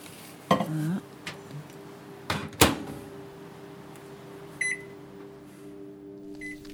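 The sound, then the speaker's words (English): A microwave oven defrosting a bottle hums steadily while a few sharp clacks and bumps ring out near the start, followed by a short electronic beep and a faint second beep near the end. “I'm just going to go back to the microwave and see how this bottle is defrosting.”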